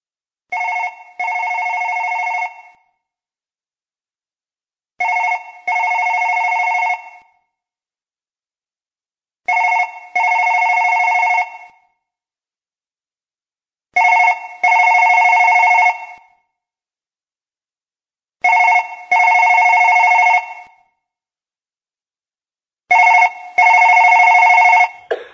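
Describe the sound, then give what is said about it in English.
A telephone rings six times in a steady cadence, each ring a short burst followed by a longer trill, loud, with silence between rings and no voices. “Do you think that you might screen your calls if it were God himself? I think it might sound a little bit like this if you did.”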